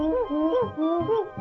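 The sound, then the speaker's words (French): A Nintendo 64 video game character's gibberish voice babbles a quick run of tonal, grunt-like syllables with rising and falling pitch, clear, with no real words. “C'est le problème de la Nintendo 64, c'est qu'il n'y a pas assez de place sur les cartouches pour mettre des voix, donc c'est toujours des grognements, des blablabla, ce qui est assez vite saoulant.”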